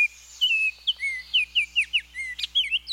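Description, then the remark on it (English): A Baltimore oriole sings a clear, whistled song of short rising and falling notes, about a dozen in quick succession over a faint steady hum, fairly loud with no talking. “In spring and summer, you may see these orioles in the Midwest and Eastern U.S., lighting up the leafy trees where they nest.”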